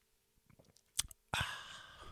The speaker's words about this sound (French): C'est ASMR pas à peu près, ça, prendre une belle gorgée de café de même.